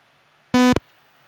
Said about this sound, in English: Loud beep, which is cool. I want that as a sound effect so that we can bleep out everybody's Wes Snyder's.